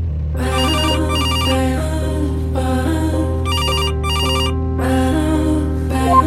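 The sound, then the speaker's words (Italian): A mobile phone ringtone plays a bright, repeating electronic melody in short, loud bursts, with a steady low hum underneath and no voices. The phone rings while its owner drives a Suzuki car toward a motorway entrance. “Quasi subito, ben prima che io arrivi all'imbocco dell'autostrada, il mio cellulare squilla.”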